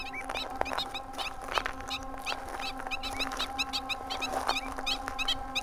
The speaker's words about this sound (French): Les oiseaux passent vraiment à quelques mètres de moi. Ils sont noirs et blancs, avec un long bec.